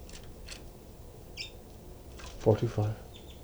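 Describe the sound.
Birds, including ones labeled 06 and 425, chitter softly to each other with short, high-pitched chirps scattered across the moment, some doubled, over a steady background hiss, while a brief low voice murmurs partway through.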